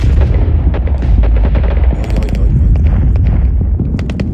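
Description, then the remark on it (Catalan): Dense, continuous gunfire with rapid overlapping shots and heavy low rumble, punctuated by brief high, thin whistling streaks of bullets, loud and sustained throughout, in the Battle of Brunete, Spain, during a Republican army offensive. “Mentre les bales xiulen, la Gerda somriu sense parar.”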